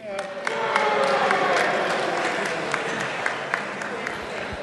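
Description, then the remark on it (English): A crowd reacts with a mix of low, drawn-out booing and scattered clapping, a steady roar of voices and hands holding for several seconds with a few sharper claps popping out. “Some of you are booing, some of you are clapping.”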